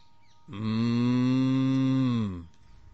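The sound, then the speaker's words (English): A cow lets out one long, loud moo lasting about two seconds, steady, then it fades, leaving quiet background noise. “One cow has come.”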